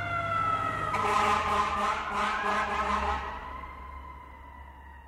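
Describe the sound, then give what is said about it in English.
A fire truck pushing through traffic sounds its siren: a steady, high tone with rich overtones, joined by a rapid pulsing blare for a few seconds before easing off and fading gradually. No one speaks. “You hear a siren and look up. A fire truck's pushing through traffic”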